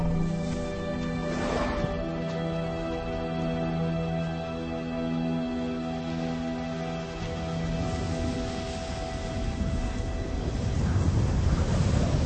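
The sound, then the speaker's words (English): A steady, roaring desert sandstorm wind blows without pause, with a low droning hum beneath it. A brief gust surges early on, and the rush grows louder and rougher toward the end. “The storm is now subsiding, but not all the elephants have been so lucky.”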